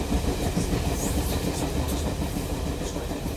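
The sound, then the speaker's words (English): A train rolls steadily along the tracks on the short ride from New York City to Union, New Jersey, its low rumble constant, with faint rhythmic clacking of wheels over rail joints and no voices. “The town of Union is only a short train ride from New York City.”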